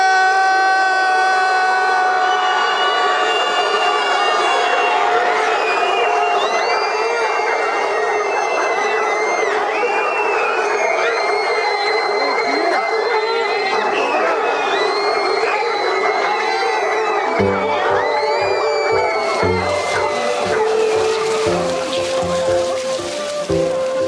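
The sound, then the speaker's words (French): A crowd of people shouts loudly and continuously, trying to shout louder than a large pack of dogs so they are heard at a château, many high, wavering voices yelling together in a sustained roar that turns choppier and more broken toward the end. “Alors, on va crier comme des humains.”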